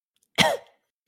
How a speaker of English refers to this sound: coughs a little bit.